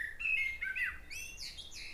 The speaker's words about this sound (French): Passarinho.